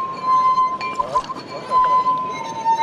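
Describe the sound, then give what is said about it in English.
Water-filled goblets played as an instrument, tuned with a turkey baster by removing or adding water, give a steady, pure ringing tone that holds one high pitch throughout, with soft clinks and a voice talking underneath; tourists watch. “To tune his musical vessels, he uses a turkey baster, removing water to raise the pitch, squirting in water to lower the sound.”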